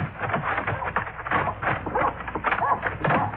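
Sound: dog barking or growling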